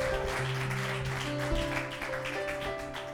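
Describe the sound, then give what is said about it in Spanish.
A church audience claps steadily for the Lord as the evening's preacher is introduced, a dense, even wash of applause lasting a few seconds, while sustained organ-like keyboard chords hold underneath. No one speaks. “Si va a aplaudir, déselo fuerte al Señor.”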